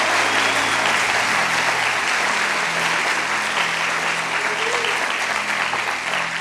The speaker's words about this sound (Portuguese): Aleluia, aplauda o Senhor essa noite. Aleluia.